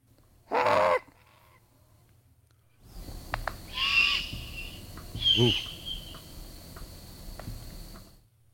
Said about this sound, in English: But let's play this juvenile great horned owl,